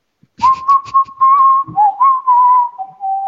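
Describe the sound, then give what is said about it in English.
Someone whistles the Luigi's Mansion video game theme melody, a clear mid-pitched tune that holds steady notes, steps down a few times and pauses briefly between phrases, with no talking. “I like that theme song.”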